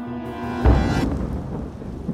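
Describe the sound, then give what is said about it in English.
A sharp thunderclap bursts out and then rumbles away, with steady warm rain hissing underneath throughout, during a summer storm in Flagstaff in 1992. No voices. “It was the summer of 1992 and a storm battered Flagstaff.”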